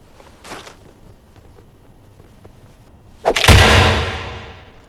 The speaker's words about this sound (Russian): Вот он, хлесткий удар. Даже если противник останется стоять, он будет испытывать чудовищную физическую боль и внутреннее разрушение.